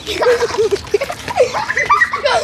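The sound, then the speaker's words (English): Two young sisters playing with water pistols on a front lawn on a boiling hot summer's day: high, excited squeals and giggles, mixed with short splashy spurts of water throughout the brief scene. “her younger sister are playing with water pistols on the front lawn.”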